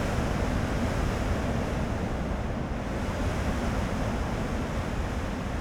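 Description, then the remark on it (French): Strong storm wind roars without pause over heavy, crashing surf, a dense, loud wash of rumbling noise that stays steady across the whole stretch. No voices are heard. “Ça en devient presque inquiétant, mais c'est aussi fascinant de voir les éléments se déchaîner ainsi.”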